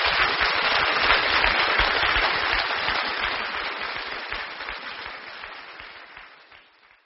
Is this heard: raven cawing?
no